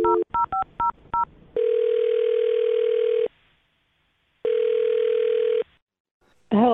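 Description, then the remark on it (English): A quick run of five touch-tone keypad beeps as a woman's phone number is dialed during a radio show, then two long, steady ringback tones separated by a pause, before a voice briefly picks up at the end. “All right, I'm going to dial her phone number right now.”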